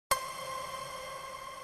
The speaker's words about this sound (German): Diese Blase, die wir sehen, diese Seifenblase, die dann zerspringt, da ist ein ganz kleiner Effekt drauf.